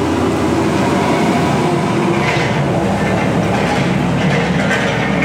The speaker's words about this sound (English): Sorry, that's a really big truck passing by on the road, so I just waited for it to pass.